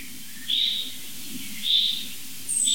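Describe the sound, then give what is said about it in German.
Small birds of three species give short, high-pitched alarm calls, three brief bright notes spaced about a second apart over a low, steady outdoor background with no one speaking. “Also das ist jetzt für mich eindeutig so ein Alarmmuster jetzt. Es sind immer drei Vogelarten interessiert.”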